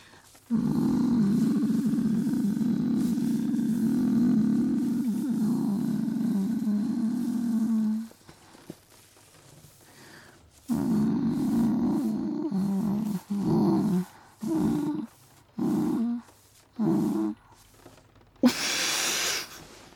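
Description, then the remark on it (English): A person imitates a cat's purr with a low, throaty rumble held for several seconds, then repeated in shorter bursts, fairly loud, ending with a brief breathy hiss. “Like a purr?”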